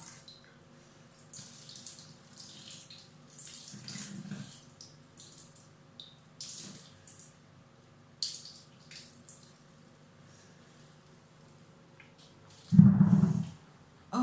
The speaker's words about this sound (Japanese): すごい長いおしっこ長い。お酒飲んだ後のおしっこってすごいよねすごいですよね。